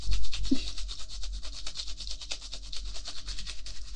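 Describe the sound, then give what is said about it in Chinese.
Rapid, steady scrubbing with a long soft-bristled brush pushed down a dead woman's esophagus into her stomach: a dense run of short, rasping strokes in a quick repeating rhythm, bright and hissy, continuing without pause and with no voices. “不好意思啊，姐姐，用刷子插进你的食道里，捅进你的胃里，用力的刷，应该挺难受的吧？”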